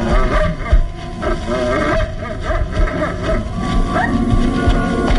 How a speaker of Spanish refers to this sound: Los lobos luchan entre sí tratando de obtener la mejor parte del botín de carne de jabalí.